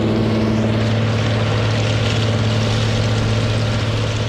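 A barge's engine drones loudly and steadily as it maneuvers into position, its low hum unbroken. Throughout, a constant rushing, hissing spray runs over it from a fire hose blasting a huge pile of oyster shells off the boat onto a reef. No one speaks.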